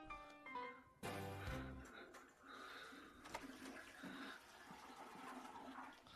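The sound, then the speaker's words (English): A toilet flushes in an upstairs master bathroom, a sudden loud rush of swirling water that keeps roaring steadily for several seconds after a brief, quieter tonal moment at the start. “He sat in there not flushing the whole time?”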